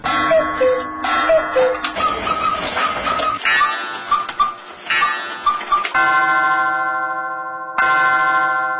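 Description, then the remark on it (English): A dense mix of many clocks at Heritage House Clocks, a clock store in Dallas, Texas, where thousands of clocks are set to different times, ticking and chiming at once, bright bell tones overlapping in an uneven jumble, then a sustained ringing chime that swells and lingers, fairly loud. “She tells us with thousands of clocks in her store, they're all set at different times.”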